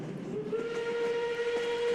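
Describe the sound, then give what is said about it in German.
A train rolls in with a steady low rumble while a steam whistle sounds one long, level, mid-pitched tone that sustains almost to the end. No one speaks. “Der Explain Train fährt ein.”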